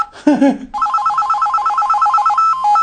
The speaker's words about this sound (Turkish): Güzel. Çok güzel. Eski bir telefon çalması var.